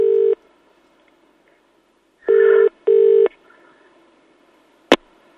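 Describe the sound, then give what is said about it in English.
An American record producer's telephone rings in short electronic tone bursts, one, then a quick double ring, before a sharp click as he picks up the handset. The line is otherwise quiet. “this is what happened when Jason, the American record producer, answered the phone”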